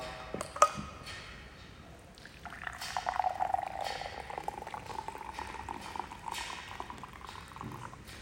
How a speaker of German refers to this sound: Und dieses leere Glas, das ist mit Wasser gefüllt, wie du siehst. Und zum Glück hält mein Glas sogar heißes Wasser aus.